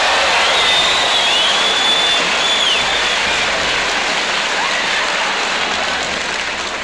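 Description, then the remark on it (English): A large crowd at the Palladium applauds in a dense, steady roar of clapping that holds for about seven seconds, with a thin high whistle cutting through during the first few seconds. “You didn't hear that in the applause.”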